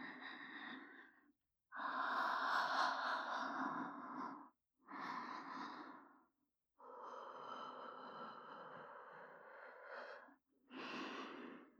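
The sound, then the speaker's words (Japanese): A woman breathes heavily, five long, breathy exhales and inhales with short pauses between them, airy and slightly wheezy, with no talking. “私の吐息で、チンポをビクビク震わせながら惨めにザーメンをドブドブ吐き出せばいいんです。”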